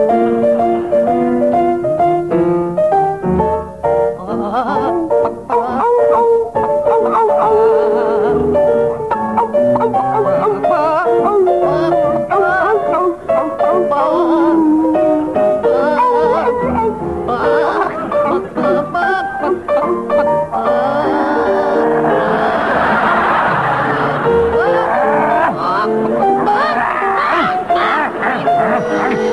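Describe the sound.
John Cleese and Graham Garden sing a familiar melody in barks, yelps and clucking squawks, imitating a dog and a chicken. The performance is loud and continuous, with the animal noises riding the tune throughout.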